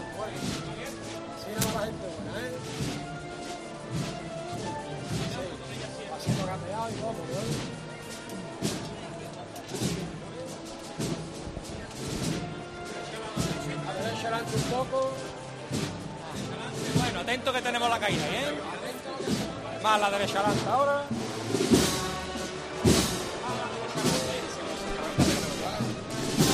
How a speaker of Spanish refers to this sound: Suena la marcha Madre de Costaleros, una composición de Pablo Ojeda, que interpreta la banda de las Cigarreras a esta Virgen de los Desamparados